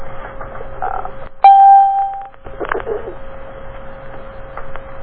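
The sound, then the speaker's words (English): A single bright electronic chime signaling entry to a conference call rings out, clear and fairly loud, holding for about a second before cutting off, over a faint steady background hum with no one speaking. “So I think we're going to have to have the chimes because I mislaid my postcode, and I will find it later for the rest of the week, but I don't know what it is for today, so I came on the participant one.”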